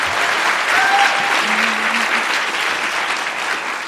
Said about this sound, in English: I heard you guys clapping at everything.